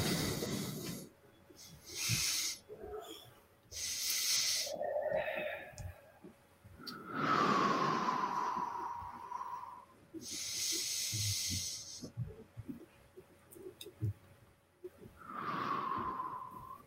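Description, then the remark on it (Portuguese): A group does a breathing-technique exercise, breathing deeply together in slow, repeated cycles, with loud hissing inhales and exhales and occasional whistling nasal tones. Nobody speaks. “Então, a gente vai começar com a técnica de respiração, né?”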